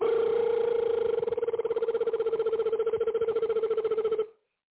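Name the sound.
phone ringing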